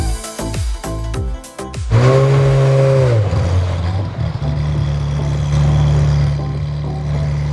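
A short burst of rhythmic music gives way to the loud engine of a yellow Ferrari revving as it arrives, its pitch swelling, dipping, then settling into a steady, rumbling drone.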